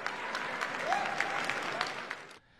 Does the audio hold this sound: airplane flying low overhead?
no